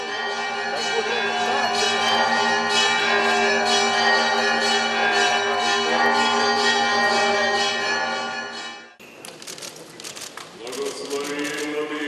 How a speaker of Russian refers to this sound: Верующие узнали об избрании нового предстоятеля из громкого перезвона в Киево-Печерской лавре.